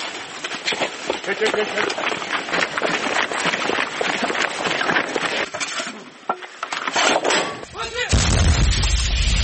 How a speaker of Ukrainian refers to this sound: Українські військовослужбовці виявили ціль в напрямку окупованих пісок і ведуть вогонь із гармати. Гармати! Постріл!